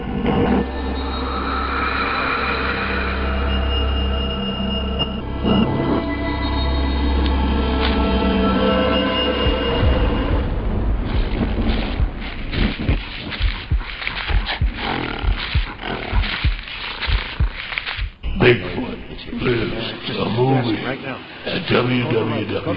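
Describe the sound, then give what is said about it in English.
A deep, rumbling growl with a rough, droning tone runs for about ten seconds, then gives way to irregular crackling and thumping sounds of something moving around, with occasional low growls mixed in. “You know, every time I hear that, every time I hear that growling and that moving around, it just gives me little chills on my arm because I remember when that actually happened.”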